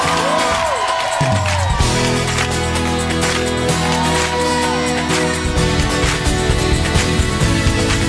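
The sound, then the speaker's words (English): An audience claps and shouts together at an evening worship, a dense, steady wash of crowd noise with sharp hand claps scattered throughout, layered over sustained musical tones for the full length. “Come on, clap your hands and shout if you believe it tonight.”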